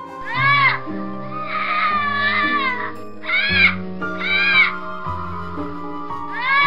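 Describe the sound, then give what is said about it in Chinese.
An infant wails in a series of about five loud, high-pitched crying bursts with short pauses between them, set against a low, steady droning musical background. “又是一阵婴儿的哭声从李军身后响了起来，李军心里一颤，难道他还没死？”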